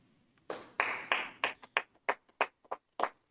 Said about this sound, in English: Of course, worth noting, one person clapping. What's the sound of one citizen clapping?